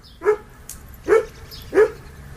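A dog barks three times in an even rhythm during a conversation, each bark short and fairly loud, with faint background noise between them.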